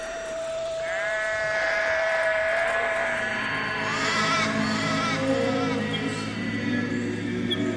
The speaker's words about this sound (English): we're just looking over green paddocks. Quite a lot of sheep in the paddock there from the local farmer. We're surrounded by farmland.